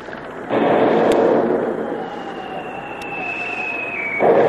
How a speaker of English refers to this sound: while Kennedy is at the wheel of his schooner, the submarine comes to the surface, not more than 1,000 yards away, and opened fire with its 3-inch deck gun, sending the first few shots screaming through the rigging to find the range.